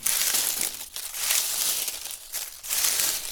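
Leaves of tall, swaying bamboo trees rustle in the wind with a dense, crisp hiss that swells and fades in gusts, dipping briefly a few times. Steady and continuous, with no voices.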